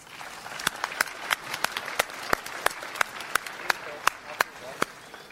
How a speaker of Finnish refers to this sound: Hän julistaa meille Jumalan sanaa ja annamme hänelle rohkaisevat aplodit.